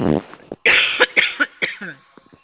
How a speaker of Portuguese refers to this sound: Nossa, me deu uma tosse, menina.